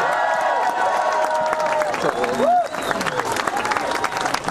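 crowd, crowd cheering and applauding

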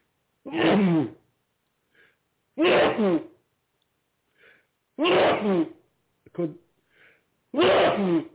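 human body sound, sneezing fit

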